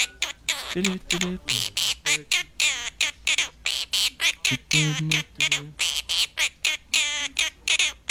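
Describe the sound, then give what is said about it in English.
A pet bird chirps and squawks a bouncy children's tune, its notes coming in quick rhythmic bursts of repeated syllables with short gaps, loud and continuous for several seconds. “This is a bird chirp singing. I love it. The baby shark song.”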